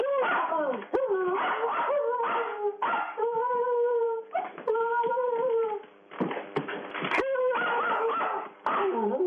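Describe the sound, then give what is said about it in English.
A small Jack Russell terrier barks and yelps almost nonstop, mixing sharp high barks with drawn-out, whining howls, the sound slightly thin and band-limited as if over a phone line. “He's a little Jack Russell.”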